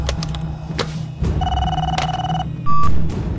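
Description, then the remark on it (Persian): A telephone rings with sharp electronic bell tones, fairly loud, a sustained ring followed by a brief higher beep, over a low background hum with no talking. “تلفن رو بده من ببینم.”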